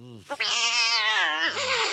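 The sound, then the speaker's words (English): A cat hisses and yowls loudly, a harsh, drawn-out snarling cry that bends in pitch for about two seconds, with no one talking. “Probably shouldn't play cat hissing noises in case they're listening on the way to the vet.”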